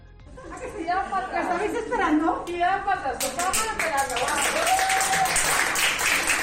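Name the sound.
hospital staff applauding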